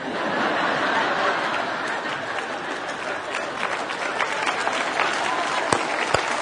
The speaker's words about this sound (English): Yeah, that's worth clapping about.